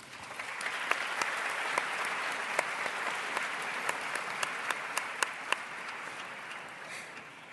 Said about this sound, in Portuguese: Para estas senhoras deputadas e aos senhores deputados, peço o vosso aplauso.